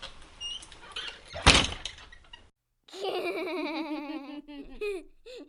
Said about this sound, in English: and I are going to record, so y'all go ahead and shut the door.